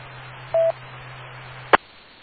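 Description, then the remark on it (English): A radio transmitter keys up over a steady low hum, sending a short two-part electronic tone burst, followed by a sharp click as the carrier drops. “All right, I heard somebody key up.”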